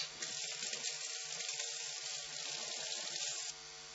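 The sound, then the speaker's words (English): A tap runs in a steady hissing stream for about three seconds, filling a glass of water, then cuts off abruptly. No one speaks. “I'm just going to grab a glass of water.”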